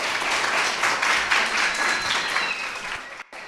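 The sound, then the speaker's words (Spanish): A steady round of applause from a group for the teacher on her last day, dense crackling claps sustained at an even loudness for a few seconds before briefly dropping away near the end. “Un aplauso, por favor, para la profesora.”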